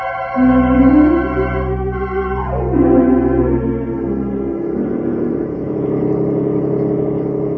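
truck engine approaching

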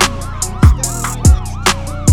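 emergency vehicle siren

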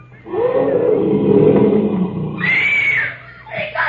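lion roaring

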